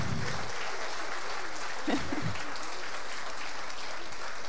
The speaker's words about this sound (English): So y'all clap for this wonderful group here.